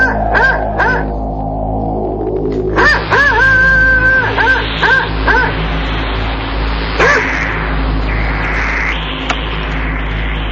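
A dog barks in a series of short, high-pitched, yappy calls, a quick pair early on and then a rapid burst of several more, over steady background noise.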